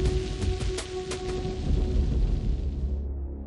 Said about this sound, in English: The thunder seemed a little fainter, the pounding of the rain slightly weaker. Is it passing? Guess so.